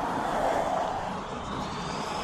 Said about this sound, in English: There's the traffic on Columbia Pike.